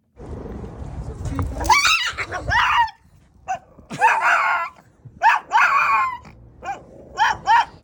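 A 3-year-old Shih Tzu weighing about 10 pounds lets out loud, shrill screams mixed with snarling yelps on first meeting another dog, coming in a string of short, frantic bursts with brief pauses between outbursts.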